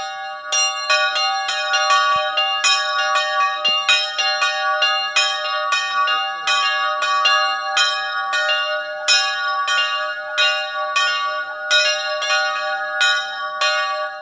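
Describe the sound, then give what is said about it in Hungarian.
A large church bell, installed in Erdőszentgyörgy, rings steadily, struck again and again in a quick, regular rhythm, its rich resonant tone hanging and overlapping between strokes. It sounds loud, with no voices. “El van szerelve Erdőszentgyőre a nagy harang, és a kicsi helyet egy új van öntetve.”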